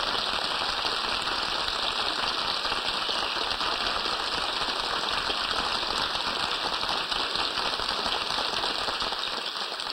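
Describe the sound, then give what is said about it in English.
Photographers' camera flash bulbs popping in a dense, rapid crackle of sharp little bursts that runs without a break at a steady, fairly loud level, with no voices. “Look at those lovely flash bulbs pop.”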